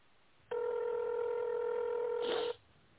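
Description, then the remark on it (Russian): A single steady touch-tone beep from a telephone keypad, dialing an employee's number in tone mode on a call to the company «Облачные сети» (Cloud Networks), held for about two seconds at an even mid pitch before cutting off, with no voices. “Пожалуйста, наберите номер сотрудника в тоновом режиме или дождитесь ответа секретаря.”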